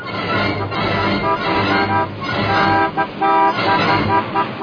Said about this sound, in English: I say, what's that chap honking his hooter for? I don't know. It's probably some road hog who thinks he owns it.